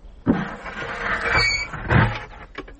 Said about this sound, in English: Come with me, and I'll show you. Here. Come in. You must close the door.